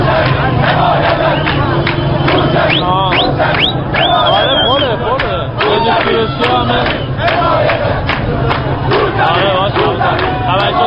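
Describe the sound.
A large crowd of protesters in Iran, protesting the presidential election results, chants slogans in unison, many voices rising and falling together in a steady, loud rhythm over a constant roar of shouting.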